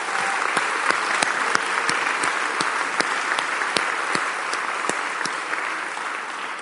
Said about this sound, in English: Thank you very much to all the men who are serving us this evening. Shall we show our appreciation with a round of applause?